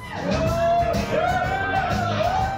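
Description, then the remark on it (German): A bar audience at a comedy festival show by comedian Jürgen Strack whoops and cheers continuously before he has said anything, with high rising and falling whoops and whistles riding over a dense, loud bed of crowd noise throughout. “Jürgen Strack hat noch gar nichts gesagt, aber das Publikum in der Bar, in der er auftritt, johlt schon.”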